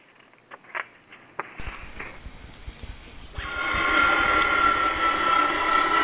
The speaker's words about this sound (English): There's a new kind of plane! That's Eastern's new Boeing 727 jet! Look how high the tail is! 34 feet! Look where they put the jets! In the tail assembly. That's one reason it's so quiet.